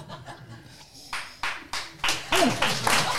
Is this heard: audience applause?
yes